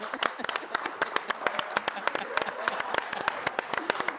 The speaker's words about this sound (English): That's good. You did that. That's a hand clap. You did that.